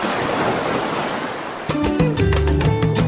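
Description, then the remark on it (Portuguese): Steady wash of ocean surf fills the first half, a broad hissing roar of waves, before tonal music with sustained notes fades in over the continuing sea sound. “Ao som da voz do mar, prepare-se para ouvir a história da criação da Rede de Mulheres Pescadoras da Costa dos Corais”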